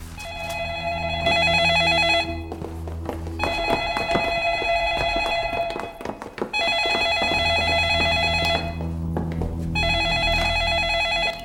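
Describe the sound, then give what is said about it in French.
A telephone rings for an incoming call from an unknown outside number, sounding in four long, bright electronic bursts with short pauses between them, loud and steady over a low background hum. “Appel extérieur inconnu.”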